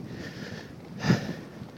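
Strong headwind buffets the microphone as the speaker rides directly into the wind, with a steady low rumble and hiss, swelling into a louder gust about midway before easing back. No voices.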